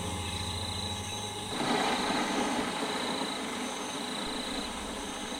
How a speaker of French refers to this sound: à l'arrière on entend ronfler la grande installation destinée au séchage et à la torréfaction du café.